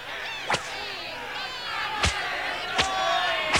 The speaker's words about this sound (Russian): Но их голосов не было слышно в реве толпы.